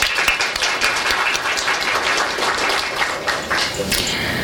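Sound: applause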